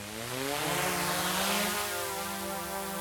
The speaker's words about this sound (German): Die Flasche wird dann im Höhengras versteckt und dann fliegen die Drohnen schon los.